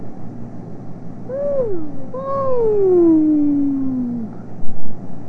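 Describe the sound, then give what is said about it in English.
A voice imitates a fire truck siren with two wailing, pitch-sliding calls: a short rise and fall, then a longer tone that swoops up and slowly glides down, over a low background hum. “Well, what does it say, that fire truck? What does it say?”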